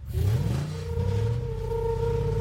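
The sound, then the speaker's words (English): A truck engine revs up quickly as the truck backs up, then settles into a loud, steady mechanical drone, with a rising pitch at the start and no voices. “Alright, just to backing up the time truck.”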